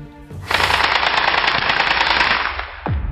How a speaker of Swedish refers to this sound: Det smattrande ljudet kommer från ett automatvapen som avfyras mot ett hus. Skotten borrar igenom ett fönster och går in i vardagsrummet.